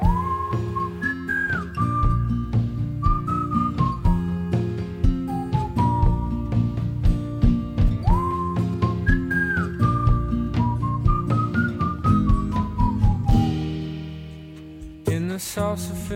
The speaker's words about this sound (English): Here comes some whistling. Let's hear it.